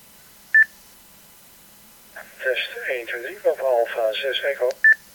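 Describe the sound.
A short two-tone beep, then a voice from a test transmission played back by a radio used as a parrot repeater, with a narrow, tinny quality, followed by another matching beep as the transmission ends.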